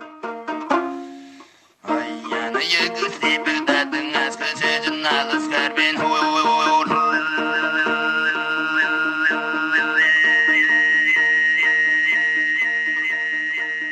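tuvan throat singing recording

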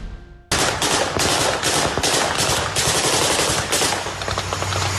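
gunfire

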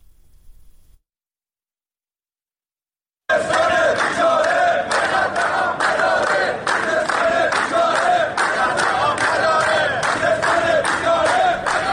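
protesting workers chanting slogans

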